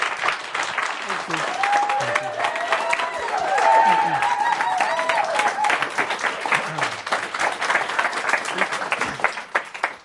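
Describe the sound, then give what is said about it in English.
An audience claps steadily for about ten seconds for a man, a dense wash of many hands that stays fairly loud throughout, with a few voices murmuring and calling out underneath before it starts to thin at the end. “So let's please, please give him a nice round, warm of applause.”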